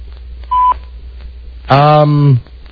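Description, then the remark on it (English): A single short, clean electronic answering machine beep sounds once over quiet phone line hiss, followed a second later by a loud, drawn-out voice. “I'm not at the sound of the beep. Leave your name.”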